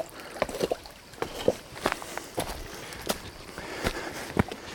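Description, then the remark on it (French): Footsteps of people crossing a shallow river on foot, each stride splashing and sloshing in an irregular rhythm, with water churning steadily between steps. “Alors là, on va retraverser la rivière à pied.”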